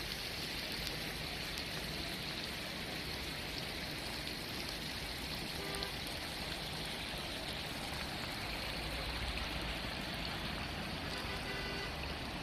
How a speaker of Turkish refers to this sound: Şanlıurfa merkezdeyiz. Dün akşamdan beri devam eden şiddetli fırtına ve yağış nedeniyle Şanlıurfa'da birçok yer sel altında şu anda. Sel altında olan bir sürü araç ve kapalı yollar var.